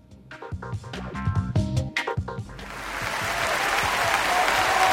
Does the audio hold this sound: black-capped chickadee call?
no